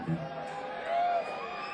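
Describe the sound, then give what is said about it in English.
An audience, called on to make noise if their area code starts with 504, cheers and whoops in a steady, dense roar, swelling briefly near the middle with a high, drawn-out whoop rising above the crowd before settling back. “If the area code starts with a 504, let me make some noise.”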